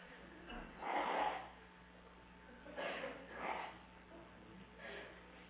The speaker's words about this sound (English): So excuse me for a second. I'm going to blow my nose.